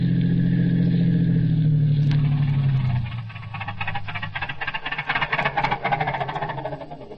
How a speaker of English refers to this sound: I'm not stopping. The car's stopping.